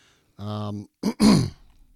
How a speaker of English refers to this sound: And I'm sorry, it is pollen season here in North Georgia, and man, y'all are going to hear me clearing my throat and stuff.